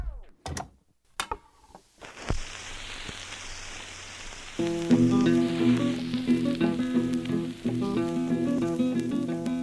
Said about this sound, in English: One of the things that became really fascinating to me about listening to old recordings is actually how hard it is initially to really listen through the crackle and through the bad sound of a worn old 78 record.